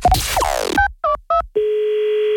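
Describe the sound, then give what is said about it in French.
A burst of swooping electronic noise gives way to three quick touch-tone dialing beeps, followed by a steady, unbroken telephone tone humming at even volume. No voices are present. “On va tester le rythme d'une dame ce matin au téléphone.”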